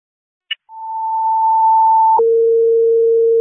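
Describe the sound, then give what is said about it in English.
A fire dispatch alert tone toning out an additional engine to Samantha Lane for a commercial fire alarm at Huntley Springs Retirement Complex: after a short click, a loud steady high tone holds for about a second and a half, then switches abruptly to a lower sustained tone. No voices. “I need you to tone out an additional engine to the Samantha Lane to replace 983.”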